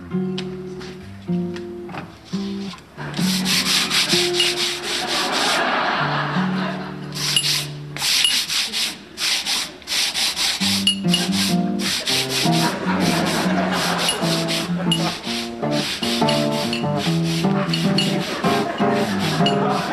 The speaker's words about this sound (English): I'm gonna go ahead and sand down that spot where the door's sticking.